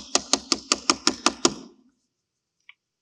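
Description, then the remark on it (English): A man knocks on his neighbor's door at midnight in a rapid, even series of about eight sharp, fairly loud knocks, followed by silence and one faint tiny click. “And he knocks on the door.”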